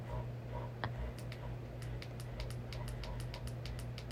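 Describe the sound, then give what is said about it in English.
A rapid series of sharp, light clicks from device buttons being pressed while someone tries to find a setting, steady, over a low continuous hum, with no talking. “If you hear the buttons clicking, I'm so sorry.”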